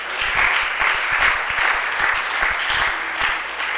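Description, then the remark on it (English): A crowd claps steadily and loudly throughout, a dense, even wash of many hands with no clear rhythm, while a few faint voices sit underneath. “Oh, come on, put your hands. You should be clapping.”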